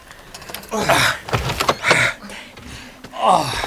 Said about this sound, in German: Ich mach mal die Tür auf.